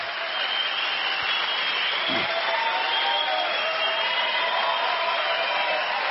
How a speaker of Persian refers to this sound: به افتخار این عروسی زیبا و به افتخار این مبارکترین زوج دنیا، خوشگل و مرتب، یه دقیقه از رو ساعت کف بزنید. دستان بالا بیاد، بالا بالا بالا بالا، یه دقیقه.